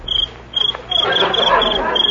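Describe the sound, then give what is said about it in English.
A little cricket chirps in short, repeated pulses, bright, a noise made by rubbing its legs together, in the country at night, with a soft murmur of background noise rising beneath it midway through. “Just a little cricket.”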